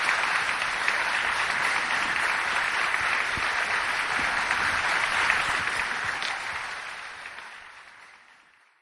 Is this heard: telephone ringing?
no